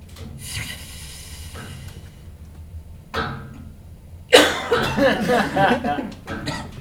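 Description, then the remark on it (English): Harsh coughing: a brief cough first, then a louder, longer fit of several rough coughs that trails off, over a low background hum. “Stop coughing.”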